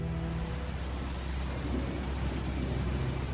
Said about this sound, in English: Back in the rear of the plane, Tina Mucklow peers out the window as the minutes creep by. The rain against the windows has increased. If they ever land and take off again, it could be in the middle of a storm.